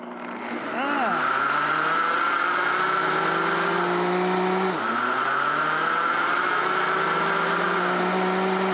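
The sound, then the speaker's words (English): A kitchen blender motor whirs up after a brief quiet start and runs loud and steady, liquefying pancake batter, its pitch briefly dipping midway as the load shifts, then droning on evenly. “So we'll take this beautiful blender, and I'm just going to turn it on, and then we're going to liquefy it.”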